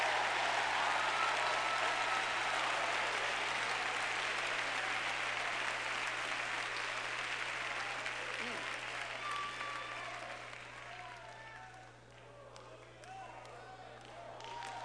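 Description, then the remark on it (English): A church audience claps loudly in praise to God, a dense, sustained burst of applause that gradually thins and fades toward the end, with a few voices and scattered claps lingering. “Ladies and gentlemen, in every church, we need to turn the mosh pits into praise pits, and we need to make sure that we're giving God more than those people out there are giving him with a hand clap of praise.”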